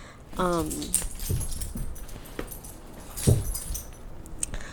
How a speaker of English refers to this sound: Sorry, my dog is going crazy. Okay, I'll let her destroy this blanket while I record this.